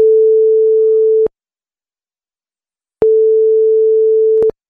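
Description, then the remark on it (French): A telephone ringing tone sounds while a call to a man's phone connects before going to his voicemail: two long, steady, loud beeps separated by a pause of silence, heard alone with no talking. “Eh ben, on va appeler Xavier”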